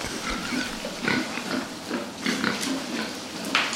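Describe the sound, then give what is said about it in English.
Several pigs snort and grunt in quick, overlapping bursts, a busy chorus of rough nasal snuffles with no talking, steady throughout the short stretch. “How about pigs snorting? All right. Now, you can never go wrong with pigs snorting.”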